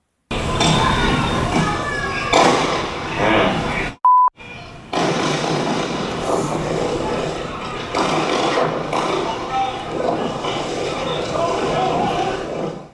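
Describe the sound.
Several sharp gunshot cracks, recorded in a bystander's video, burst out over a loud, roaring crowd and shouting voices, with a short steady beep cutting in partway through; the shots killed a man.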